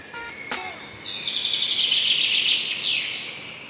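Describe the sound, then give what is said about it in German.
Birds chirp and sing in a steady, bright stream of high trills that carries on for several seconds. A single sharp click comes just before the song swells. “es gibt etwas, das kann auch eher so vorbeugend helfen, vielleicht auch bei einer leichten Depression, da kann es vielleicht auch noch eine kleine Unterstützung sein, nämlich rauszugehen, tief durchzuatmen und ein bisschen Vogelgezwitscher zu hören.”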